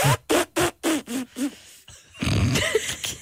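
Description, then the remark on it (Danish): A person's voice mimics an elephant's laugh: six quick, rhythmic, honking bursts, then a longer, rough, breathy blare with a brief squealing rise near the end. “Elefantgrin.”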